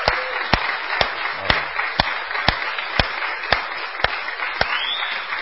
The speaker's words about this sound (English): Thank you all for all of your work over the years. Let's give these a huge round of applause. Well done.